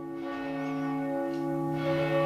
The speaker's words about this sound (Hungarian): Ha oda megyünk a toronyföljáróba, ott gondolom, ott majd jobban lehet hallani a harangot. Megszólalt a salgótarjáni templom nagy harangja.